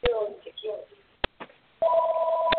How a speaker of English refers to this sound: Somebody's phone ringing. Please turn it off.